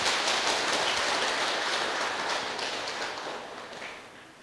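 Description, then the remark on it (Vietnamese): A large crowd claps steadily, applauding in praise of a Buddhist refuge ceremony held at Pháp Vân pagoda for more than 80 new Buddhists. The applause is a dense crackling wash of many hands that holds strong for a few seconds and then gradually tapers off. No voices are heard. “Quý vị hãy dâng cao một tràng vỗ tay thật lớn để tán dương công đức này.”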